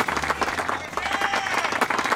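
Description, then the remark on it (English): A crowd cheers and yells over dense, steady applause, a loud continuous wash of clapping and voices lasting a couple of seconds without letting up. “Do you hear that? They love them. Screaming, the yelling about they RJ.”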